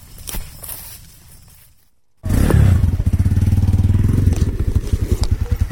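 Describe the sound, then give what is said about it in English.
A motorcycle engine rumbles at a low idle, goes quiet for a moment, then roars back loud with a steady, throbbing putter as the bike, carrying a passenger on the back, rides along a long, rough dirt road into the jungle. “The next snapshot that I want to share with you is the trip that I took on the back of a motorcycle about 45 minutes down a long dirt road into the jungle.”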